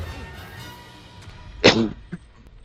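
A single loud, harsh cough bursts out, followed by a faint short catch of breath, against a quiet background hum.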